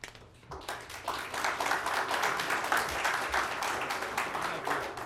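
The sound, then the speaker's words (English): An audience at a hearing applauds steadily, dense overlapping claps at moderate loudness for several seconds after a brief quieter start, with no speech over it. “But please don't give us applause, because that we don't, it's not a popularity contest.”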